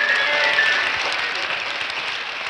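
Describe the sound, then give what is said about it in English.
A dense, steady roar of applause from a large crowd at a sold-out concert in a giant theater, many hands clapping at once in a continuous wash of sound that stays loud throughout, with no talking. “Every night he performed with such passion and such grace to wild applause and standing ovations and huge admiration.”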